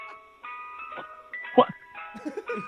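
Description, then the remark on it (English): A tinny ice cream truck jingle, played as a sound effect, sounds as steady electronic tones, with a voice briefly talking over it midway and a dog-like yelp near the middle. “The ice cream truck sound? That's just noises. That's a sound effect we're playing.”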